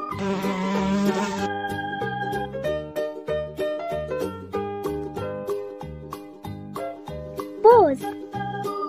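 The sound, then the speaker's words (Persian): A brief honeybee-like buzzing opens over a bouncy, tuneful music track about a golden bee, then fades as the steady beat carries on, with a quick rising-and-falling squeaky effect near the end. “زنبور، زنبوره طلایی همیشه گرم کاری، میری به روی گلها شیره گل میاری، عسل میسازی کم کم با اون صدای وز وز”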